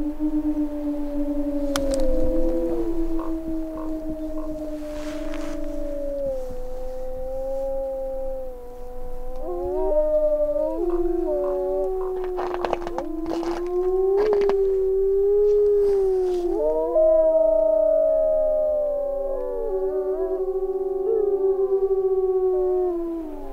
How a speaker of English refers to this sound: One of the things I often think about when we hear wolves howling is, I'm sure you know the story, that it was the last of the original Yellowstone wolves were killed in 1926, about a half a mile from where we're standing.